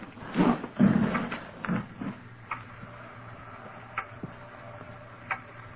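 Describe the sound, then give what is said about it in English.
A loud clock ticks with a few sharp, distinct clicks spaced apart, following some heavier thumping and shuffling sounds at the start. “Loud clock, ain't it?”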